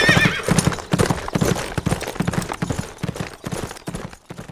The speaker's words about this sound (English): Jamie heard the horses approaching and looked out what remained of a window.